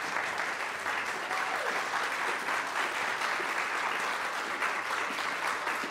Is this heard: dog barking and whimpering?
no